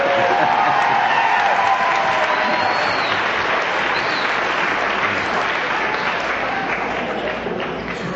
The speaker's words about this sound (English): Look from where you are, but from where I looked at, standing, it looked like it was all the women that were applauding right now.